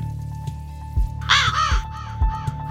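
A raven gives a few loud, harsh, raspy caws in quick succession, backed by a steady humming drone and soft low thumps in a regular rhythm.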